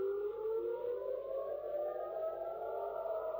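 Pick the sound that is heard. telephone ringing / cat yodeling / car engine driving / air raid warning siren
air raid warning siren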